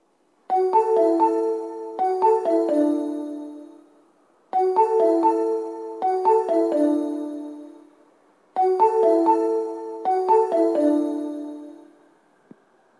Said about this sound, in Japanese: 2番線に当駅止まりの電車が到着します。危険ですのでホーム柵から身を乗り出したり物を立てかけたりしないでください。